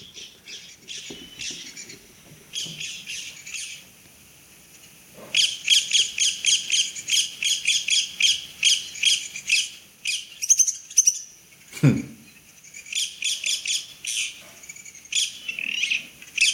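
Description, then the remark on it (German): Recorded bird contact calls played back: rapid, repeated chirping notes in dense bursts, clear, with several birds calling back and forth and brief pauses between volleys. No voices. “Das ist, kenne ich gut. Das ist die Unterhaltung so ein bisschen.”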